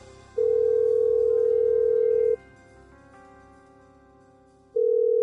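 A telephone dial tone as a phone call is placed: a steady, clear electronic tone holds for about two seconds, stops for a couple of seconds over a faint background hum, then starts again.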